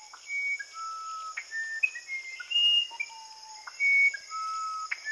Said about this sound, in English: Very tuneful. Who is this? This is the musician wren, which is a small brown bird found in throughout Amazonia. And it walks along the forest floor, flipping over leaves, looking for insects.